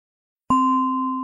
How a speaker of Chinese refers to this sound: 当你听到钟声响起时，轻轻睁开眼睛，简单的活动一下身体，先不需要急着起身，花点时间感受一下此刻的身心状态。